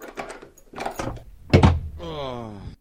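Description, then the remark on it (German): A door unlocks with a few rattling clicks, then bangs open with one loud, heavy thud, followed by a drawn-out creaking groan. “Er hatte keine weitere Zeit zum Nachdenken, denn in diesem Moment wurde die Tür aufgeschlossen und mit lautem Krach aufgedrückt.”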